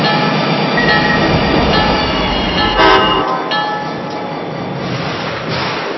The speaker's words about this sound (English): Attention passengers, now arriving from San Bernardino, train number 351.